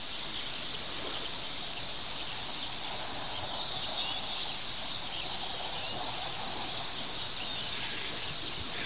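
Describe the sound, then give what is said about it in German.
A small bird sings a song laced with a sharp, high ringing tone, sustained steadily for several seconds over a soft, hissy outdoor background. No one speaks. “Das ist jetzt nicht ihr Ruf, das ist ihr Gesang und wie soll man denn das unterscheiden?”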